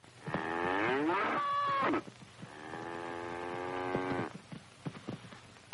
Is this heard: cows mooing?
yes